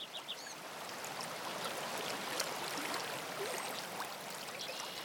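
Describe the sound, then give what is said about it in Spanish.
A steady, continuous wash of slowly flowing river water forming eddies on a hot afternoon fills the scene, even and unbroken, with a few faint bird calls chirping in the background. “El agua del río baja despacio y dibuja remolinos.”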